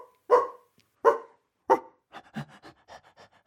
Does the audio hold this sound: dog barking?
yes